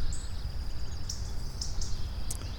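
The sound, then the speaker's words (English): Short, bright bird chirps pop up a few times in quick succession in a forest, over a steady high insect-like hum and low outdoor rumble, with no one speaking. “Look at you, birds chirping, running around.”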